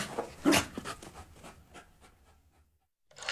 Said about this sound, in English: If it wasn't for Polo's barking, we'd have all been roasted in our beds.